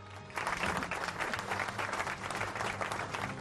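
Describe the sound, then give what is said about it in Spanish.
An applause sound effect on Radio Martí's sports news program, broadcast from Doral, Florida, swells in after a brief quiet moment: a dense, steady patter of many clapping hands that holds at an even, fairly loud level for the remaining few seconds. “Ahí está el aplauso.”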